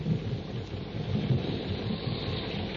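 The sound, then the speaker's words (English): A heavy jungle thunderstorm rages by a tributary of the Ubangi River, with deep rolling thunder rumbling continuously beneath a dense, steady roar of pouring rain. No voices are present, and the storm stays loud throughout. “Before Tarzan and his friends are able to cross the river, a jungle storm breaks.”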